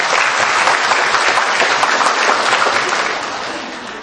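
A crowd at a Buddhist dharma gathering bursts into sustained applause for the Buddhist followers after three years apart, dense and steady clapping from many hands, then gradually tapering off toward the end.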